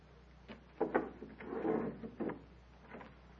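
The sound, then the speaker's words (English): A wooden door opens as a visitor arrives, with a few creaks and soft knocks, then a longer scraping creak as it swings, quiet, with no one speaking. “Atarpantu, who comes now? Wait, Tanya. See first who is at the door.”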